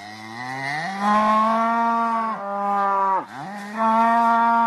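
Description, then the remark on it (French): A cow moos loudly in long, drawn-out calls, the pitch rising and dipping, with a brief break before a final sustained bellow. No talking. “La vache brûle.”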